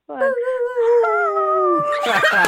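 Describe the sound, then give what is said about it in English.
People howl like wolves together in a long, steady, drawn-out wail held for about two seconds, loud, breaking into a noisy scuffle of sound at the end. “…'s howling with you.”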